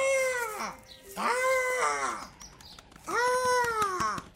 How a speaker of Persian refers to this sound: چی شده بچه ی آدم؟ چرا گریه میکنی؟